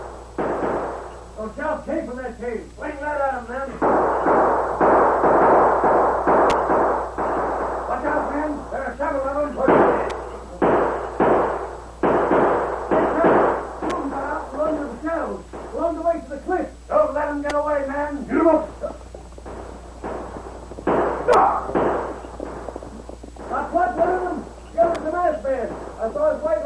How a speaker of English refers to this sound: As the Lone Ranger watched, the posse neared the cave. Then suddenly he heard shots.